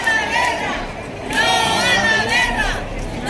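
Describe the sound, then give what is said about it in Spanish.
A protest crowd at one of the first 8M mobilizations shouts "ni una más" in unison, many raised voices overlapping in loud, sustained waves that ease briefly before surging again with renewed force. “La guerra de Oriente Próximo se suma a los gritos de ni una más en las primeras movilizaciones por el 8M.”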